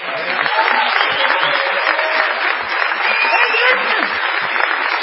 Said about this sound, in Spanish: Estamos aquí en A Coruña, en el marco del Encuentro Mundial de Humoristas. Qué bueno. Etcétera. Y en la sala esta de A Fundación. Vamos a saludar inmediatamente con una ovación del todo inmerecida a Patricio Barton.